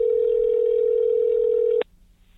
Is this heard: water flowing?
no